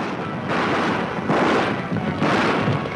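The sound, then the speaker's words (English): A continuous, dense rumble of pounding hooves from a stampeding herd in the 1933 film The Thundering Herd, swelling in rough waves of louder thundering with no voices. “That sound from the 1933 remake of the original 1925 The Thundering Herd, which was a silent film and which unfortunately has been lost to time.”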